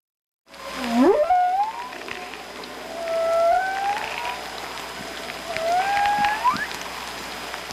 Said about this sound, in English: There's a lot of speculation, but no one knows for sure what's being communicated when whales sing to one another. One thing is certain. The sound resonating through the water, when heard by humans, can provoke a powerful response.